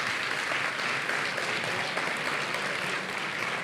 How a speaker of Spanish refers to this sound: Ahí está, los nominados en esta categoría son Entiende tu mente, Sobre perros y gatos y Te invito a un café. Un aplauso. Un aplauso a los nominados.